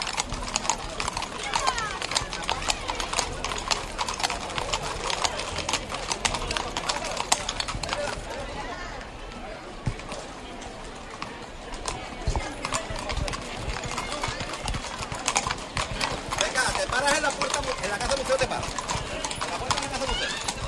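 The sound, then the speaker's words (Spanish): Many horses' hooves clip-clop steadily on hard ground as they walk along a decorated street, a dense, continuous clatter with voices talking over it and a busy outdoor background. “Y continúan ya organizando, porque decíamos que se encuentran, ya estamos en la cabecera y ya está todo el mundo pendiente de cuando comiencen, cuando den las instrucciones, volver a hacer paso como estos increíbles caballos.”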